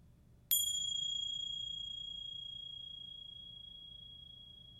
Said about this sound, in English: And I'll ring the bells one last time, and we'll just sort of linger in what remains after the sound stops.